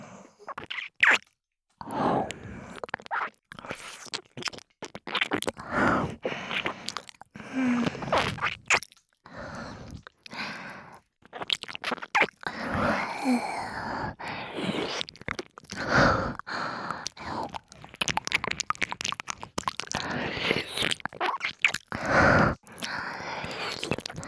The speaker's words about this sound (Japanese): 水音が強くなる。耳を舐められるのも、その音も気持ちいい。